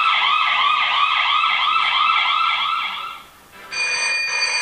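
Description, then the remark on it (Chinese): A loud ambulance siren wails in a rapid rising-and-falling pattern, briefly fades out, then returns as a steady, high electronic tone, as the ambulance takes people injured in a car crash to hospital. No one speaks. “过路的人帮他们报警，救护车很快把忠诚和拉娜送到医院。”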